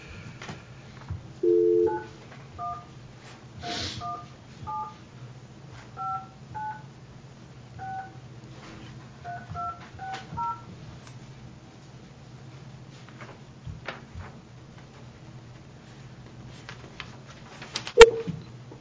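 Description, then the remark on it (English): A rapid string of touch-tone beeps as a phone number is dialed to call Ducharme, McMillan, and Associates, each short dual-tone press clear over a low steady hum, ending with a sharp click. “I've got a phone number here.”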